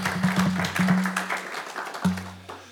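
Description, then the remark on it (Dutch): A short burst of audience applause at a meeting installing a new board, honouring the agricultural entrepreneur of the year 2019: many hands clapping in a dense, crackling patter, with a low steady hum starting and stopping underneath. “Agrarisch ondernemer van het jaar, dat is wel een applaus aan.”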